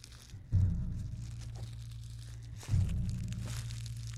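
Footsteps crunch through dead leaves on a walk in a forest, the ground damp after rain, mild weather with little sun: two heavier steps each followed by a lingering crinkly rustle, moderately loud, with no voices.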